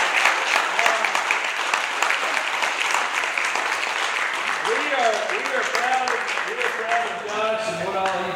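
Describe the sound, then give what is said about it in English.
A church audience applauds with steady, dense clapping, while a few voices call out and chatter over it toward the end, honoring a young member who has enlisted in the United States Navy. “So let's give him a round of applause.”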